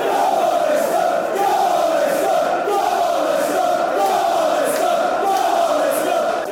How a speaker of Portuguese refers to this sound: Leicester no comando da Primeira Liga. E os adeptos do Leicester, esses gritam em força.